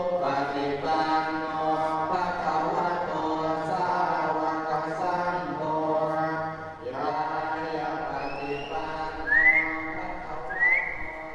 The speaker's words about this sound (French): J'ai l'impression que c'était comme une petite hirondelle. Oui, les oiseaux nichent ici.